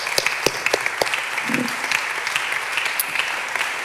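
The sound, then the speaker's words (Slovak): Steady applause from a church audience, given for the Lord Jesus, a dense wash of many hands clapping with sharp individual claps standing out, sustained at an even level for a few seconds with no voices. “A dajme potlesk Pánovi Ježišovi, lebo o ňom to celé je.”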